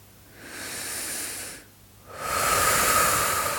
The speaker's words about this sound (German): Und schließe deine Augen und fang an zu atmen, bewusst zu atmen. Atme tief bis in den Bauch hinein und atme tief wieder aus.